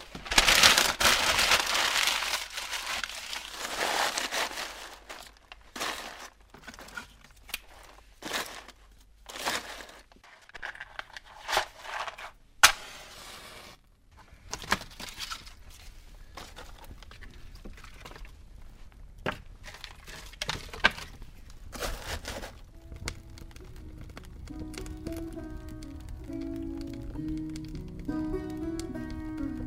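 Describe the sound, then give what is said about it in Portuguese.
A rushing burst of noise as a fire is lit in a fireplace and catches, followed by sharp, irregular crackles and pops; soft music with sustained tones joins in the last several seconds. “Ora, vamos lá acender a nossa lareira.”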